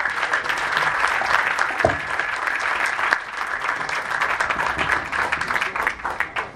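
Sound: audience applause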